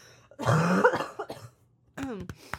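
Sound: coughing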